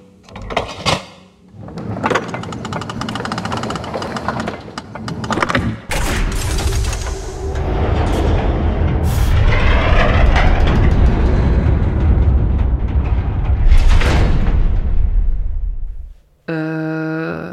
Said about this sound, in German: Ist da gerade eine Tür aus dem Boden gefahren oder bin ich high? Nee, ich sehe sie auch.